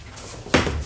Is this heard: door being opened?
yes